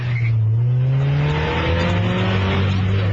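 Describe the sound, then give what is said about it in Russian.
Race car engines, among them a black Mazda and dozens of other racers, roar loudly and steadily at the start of an illegal race in Poland, their pitch climbing as they accelerate hard off the start, with a brief tire squeal near the beginning. No one speaks. “Это владелец черной Мазды, который, как и десятки других гонщиков, уже готов к старту.”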